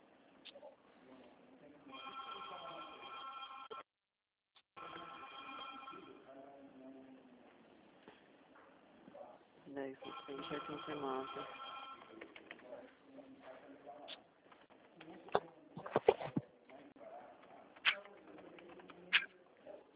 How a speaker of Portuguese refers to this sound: Gente, que telefone.